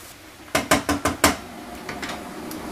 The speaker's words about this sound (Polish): Przemieszamy cebulę.